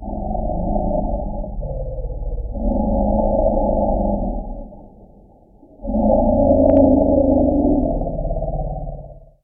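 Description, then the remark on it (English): Deep, resonant rumbles of elephants greeting each other roll on in two long, overlapping bouts with a short lull between, loud, with a muffled, almost underwater tone and no talking. “That's a greeting between elephants.”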